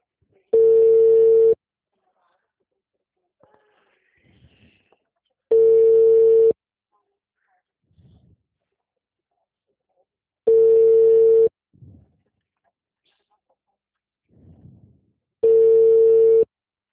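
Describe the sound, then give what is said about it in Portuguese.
A telephone ringback tone from a phone call repeats four times before the call goes to voicemail, each steady electronic burst lasting about a second with long silent gaps between, while faint murmurs and soft rustling sit in the pauses. “Deixe a sua mensagem na caixa postal.”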